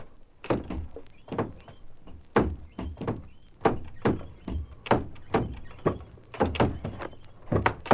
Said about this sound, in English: Doors opening and closing.